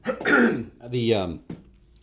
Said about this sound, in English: I'm going to end your cough here for a second.